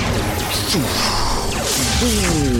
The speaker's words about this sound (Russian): Эластика нажала нужную кнопку на пульте, и в робота ударила ракета. Омнидроид упал и взорвался.